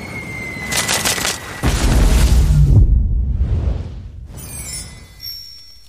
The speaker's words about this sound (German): bis aus den Weiten des Alls fauchend der Komet heranbraust und mit einem lauten Knall auf der Erde einschlägt.